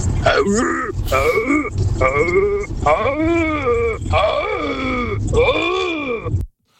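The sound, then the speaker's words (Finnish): A moose call: a string of about six loud, nasal, bleating moans with wavering, rising-and-falling pitch, repeated almost back to back for several seconds before stopping abruptly. “Mä en tiedä, ton kuulonen hirvi, kun tulee, niin ota jalat alle ja juoksi.”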